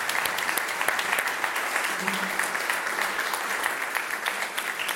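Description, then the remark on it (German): Steady audience applause at the 2022 Hörspielpreis der Kriegsblinden award ceremony fills the whole stretch, a dense wash of many hands clapping at an even, sustained level without pause. “Das ist Ihr Applaus.”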